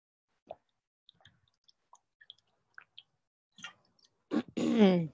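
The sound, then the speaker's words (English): Someone takes a sip of water: scattered soft, wet mouth clicks and small plops, then a louder swallow and a breathy, voiced exhale at the end. No one speaks. “I'll let you look at the cover while I take a sip of water.”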